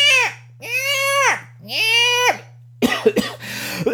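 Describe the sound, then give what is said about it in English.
A bird mimics a cat's meow three times in a row, each call a drawn-out, whiny rise and fall, sounded every time an elderly woman starts talking over coffee, followed by a burst of rough, scratchy noises over a steady low hum. “And y'all, it was this bird. And every time Granny would start talking, the bird would go, "Meow, meow."”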